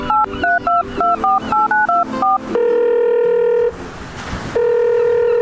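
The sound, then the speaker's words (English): A quick run of about eleven dual-tone keypad beeps dials a number on a Beyerdynamic Phonem, followed by two long, steady electronic ringback tones separated by a short hissy pause. “Give me a sec. Let me give her a buzz.”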